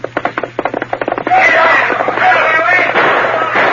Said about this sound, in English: Bending low over the pommel of the saddle to avoid the flying bullets, the Lone Ranger urged his gallant horse to greater efforts.